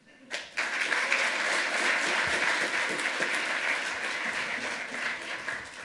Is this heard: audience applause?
yes